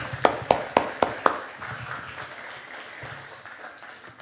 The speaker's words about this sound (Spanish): Un aplauso para los que lo están haciendo.